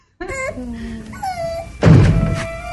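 impact, door being kicked open

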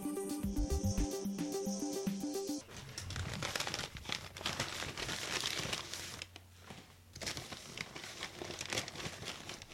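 household object, paper bag crinkling

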